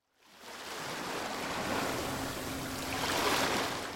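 Sea waves wash and break steadily on a shore, a broad continuous rush of surf that swells slightly louder toward the end, with no voices present.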